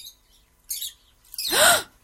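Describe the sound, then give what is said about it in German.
Birds chirping in short, bright bursts: a faint early twitter, a quick high chirp, then a louder, longer squawking call, all clear with no talking. “Jetzt mach schon und öffne sie erst wieder, wenn du Vogelgezwitscher hörst.”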